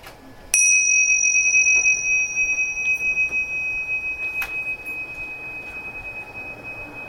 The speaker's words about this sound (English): So keep trying to follow the vibration of the bell and differentiate it from all the sound outside in the room and in the hallway behind us.